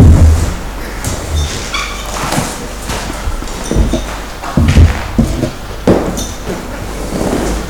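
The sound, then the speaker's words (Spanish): A chair is dragged and set down beside someone, with scraping bursts and several dull low thumps spread across a few seconds over steady background noise. “acerca de una silla al lado, por favor.”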